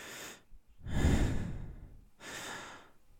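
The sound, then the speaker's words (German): Three audible breaths in a slow rhythm: an airy inhale, a longer and heavier exhale, then another inhale, with short silences between and no talking. “Ein Atmen.”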